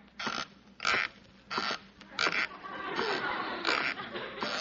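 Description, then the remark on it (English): Squeaky socks creak with each step: four evenly spaced, high, rasping squeaks, then a longer run of overlapping creaks as the walking continues, with no talking. “I got to get rid of these squeaky socks.”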